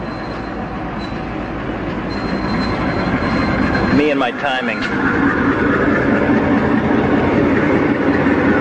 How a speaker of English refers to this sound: Oh, dear. It's a train again. Don't blow the whistle. Please don't blow the whistle.